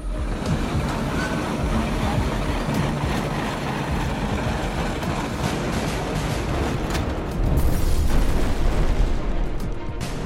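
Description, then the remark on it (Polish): A massive explosion of a speeding train in a field, staged for a film, roars continuously, a dense, rumbling blast of noise that never lets up and swells even louder toward the end, with no voices. “Pociąg na ekranie wybucha z kilku ujęć naraz.”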